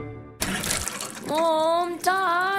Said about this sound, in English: Water again.